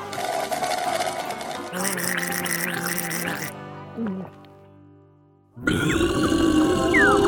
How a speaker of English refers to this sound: Wow, that was the most beautiful burp in the whole wide world.